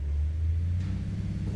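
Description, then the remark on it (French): A deep, steady engine rumble from an idling bus as passengers get off, low and constant throughout with a faint hiss of air near the middle, no voices present. “Ils descendent du bus.”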